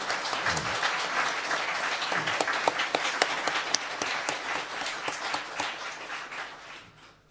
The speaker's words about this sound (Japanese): 皆さん、マクドの父母様に大きな感謝の拍手を送りましょう。